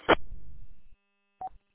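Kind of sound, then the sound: signal or alarm, radio repeater beep tone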